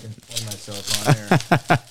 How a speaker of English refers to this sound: And you can hear the bubble wrap.